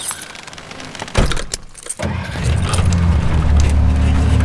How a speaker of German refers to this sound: Es ging nun steil bergab und alles im Jeep wurde durcheinander geschleudert.